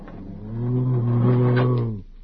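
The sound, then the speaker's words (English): A man at a door lets out a single low, sustained growl lasting about two seconds, fairly loud with no other sound around it, a voice playfully imitating a bat. “Bats don't growl, they squeak.”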